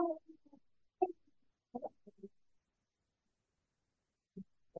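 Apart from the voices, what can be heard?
a sneeze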